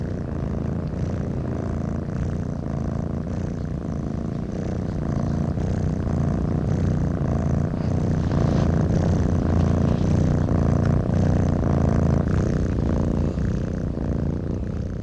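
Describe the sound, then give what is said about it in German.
Two cats purring at once for about 10 seconds, their steady, rumbling purrs overlapping into a continuous low drone, fairly loud, with no voices throughout. “552 Schritte und 10 Sekunden sich überlappendes Geschnurre zweier Katzen einer der 34 Kehren.”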